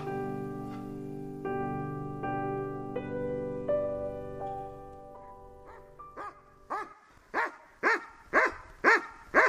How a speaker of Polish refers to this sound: Kera, to owczarek belgijski. 6 lat w tym roku skończyła, jest z nami od samego początku.